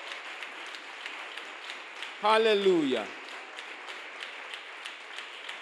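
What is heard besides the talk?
audience applauding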